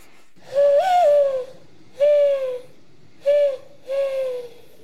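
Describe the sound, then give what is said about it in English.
A woman blowing into cupped hands to imitate a mourning dove's coo: four hollow, breathy hoots, the first longest, with a steady soft rhythm, fairly loud with no talking. “even learned to coo like a dove by blowing into her cupped hands.”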